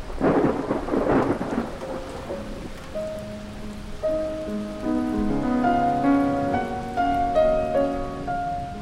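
A loud thunderstorm opens with heavy rumbling thunder and steady rain hiss, then sustained musical tones fade in and grow over the fading storm; no one speaks.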